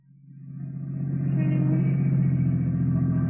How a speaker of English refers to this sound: We're lucky. There's a parking space. All right, pull in. Now turn off the motor.